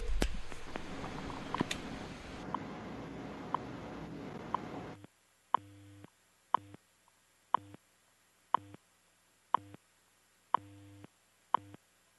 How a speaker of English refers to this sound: Okay, these little taps are basically time checks. You'll hear an announcement in a few seconds.